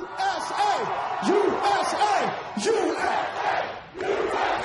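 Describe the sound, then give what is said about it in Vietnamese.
A large concert crowd, led by comedian Jamie Foxx, cheers for America at a show broadcast on HBO, chanting loudly and continuously, voices rising and falling in a rhythmic, rally-like roar that holds steady for the whole stretch. “Và nghệ sĩ hài Jamie Foxx dẫn đầu đám đông khán giả tung hô nước Mỹ.”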